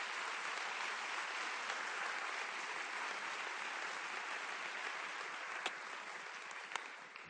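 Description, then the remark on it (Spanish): A crowd applauds for Jesus for several seconds, a dense, even wash of many hands clapping at constant loudness, with a couple of sharper claps standing out near the end. No one speaks. “Ponle un aplauso a Jesús, que es la misma palabra, que es el verbo.”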